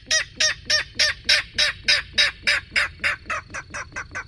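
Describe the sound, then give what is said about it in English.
A king rail in a marsh gives a steady series of about fourteen harsh, clipped grunting calls, evenly paced, slightly fading toward the end, with no voices present. “Reeds and bulrushes provide cover for secretive marsh birds like king rails.”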